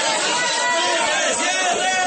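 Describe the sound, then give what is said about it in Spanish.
A dense, loud crowd in the morning at Corabastos, the wholesale food market in Bogotá, Colombia. Many overlapping voices blend into a steady hubbub with no single speaker standing out. “Así se escuchaba Corabastos esta mañana.”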